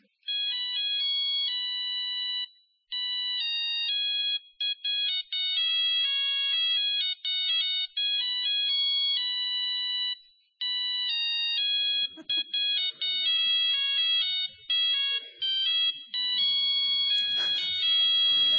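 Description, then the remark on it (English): Electronic mobile phone ringtones play one after another, bright beeping melodies in quick repeating patterns, with a burst of noisier tones toward the end. No one speaks. “they're going to have charts for ringtones off the internet”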